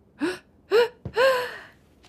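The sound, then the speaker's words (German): A sneeze from someone allergic to house dust: two rising, gasping intakes of breath build up before a sharp, explosive burst that trails into a drawn-out voiced tail. It is fairly loud and stands alone without talk. “Dein heutiger Expeditionsleiter muss übrigens auch ziemlich oft niesen.”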